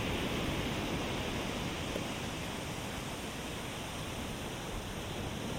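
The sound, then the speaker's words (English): A steady, continuous wash of ocean surf, a dense hissing roar that stays even throughout without distinct breaking swells, with no voices present. “May the sound of the waves continue to echo in your heart, reminding you of your journey and the peace that forgiveness brings.”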